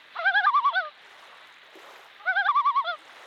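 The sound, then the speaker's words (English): A recording of a loon played on a phone: two bursts of its tremolo call, each a rapid, quavering, laugh-like warble of about seven pulses, loud and clear with a short pause between them and no talking. “This one is the so-called trello sound.”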